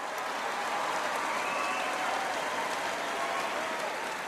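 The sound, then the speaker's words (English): An audience member applauds enthusiastically: a dense, steady patter of clapping that holds at an even, fairly loud level for the whole few seconds, with no talking over it. “An audience member enthusiastically applauds.”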